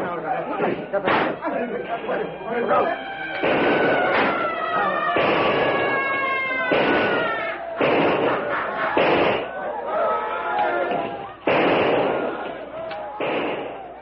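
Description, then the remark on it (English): A chaotic battle melee: a crowd of men shrieking and bellowing, many bleeding from gunshot wounds as they rush in and surround a small group fighting for their lives, wailing cries rising and falling, broken repeatedly by loud, sharp bangs and thuds throughout. “Shrieking, bellowing, many now spouting blood from gunshot wounds, the yellow men rush close and surround the little group of whites as they stand fighting desperately for their lives.”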